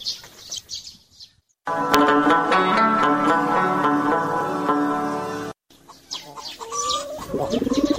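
Pigeons coo among other bird calls, with a long, loud, sustained vocal stretch in the middle and softer, throaty calls on either side. Nobody speaks.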